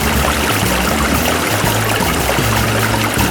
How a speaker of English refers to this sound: It can sound a little different though when you have just the sound of the flow of the water. Hear what I mean?